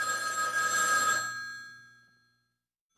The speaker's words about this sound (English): But right as they were talking, the phone rang.